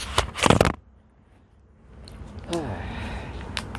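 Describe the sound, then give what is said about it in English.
A recording device is set down with a burst of handling knocks and rustles, then a short quiet stretch before soft clicks and a faint crack of coconut water being opened, with a brief murmured voice. “So what I'm gonna do is I'm gonna put the recording device down, open the coconut water, have a sip”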